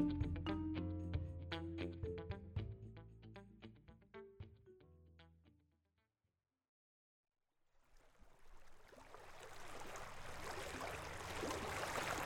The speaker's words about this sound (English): Andrew Posowitz and I are floating the Missouri River in his drift boat.